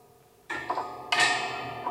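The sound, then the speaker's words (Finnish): Prison bars rattle and clank in two loud metallic bursts, part of a sound recording, each leaving a bright, ringing resonance that lingers between hits. No voices. “Kalterin kolina, ja tässä on semmoinen pieni sellainen tavallaan tuommoinen vähän kirkonkellon tuonelan äänet.”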